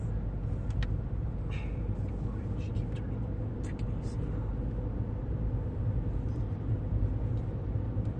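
Steady low rumble of road noise inside a moving car, a constant droning hum throughout with a few faint, brief clicks and rattles near the top.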